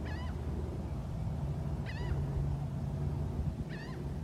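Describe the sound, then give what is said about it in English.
Seagulls call three times at roughly even intervals, each a short, harsh cry, over a steady low rumble of background noise. “Fucking seagulls are fucking in the background.”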